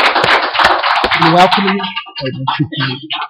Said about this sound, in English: And but we do want to welcome you here this morning. So let's just give them a round of applause.